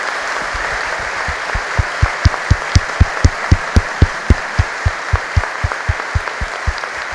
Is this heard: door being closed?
no